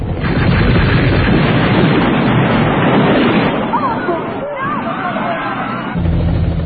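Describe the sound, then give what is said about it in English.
A loud, continuous din of explosions and bursts of gunfire, with a crowd's agitated shouting and cries rising through the chaos, heavy throughout. “So here you have explosions, gunfire, you have the people in the half-naught world reacting quite realistically to it and being, you know, quite moved by it and responding to a way of life that they know, a violent way of life.”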